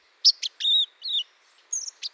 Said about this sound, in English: In the fall, listen for white-throated sparrows rehearsing their song. Inexperienced young birds, hatched during the preceding summer months, sometimes begin with disorganized jumbles of notes, known as subsongs.